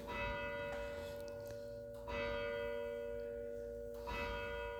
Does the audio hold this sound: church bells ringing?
yes